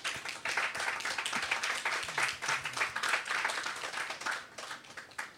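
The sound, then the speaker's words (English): An audience applauds the contributors to a book about being a father, many hands clapping in a dense, continuous patter that stays fairly loud for several seconds before easing slightly at the end. “So first of all, I want to say thank you to you all and give you all a big round of applause, first of all.”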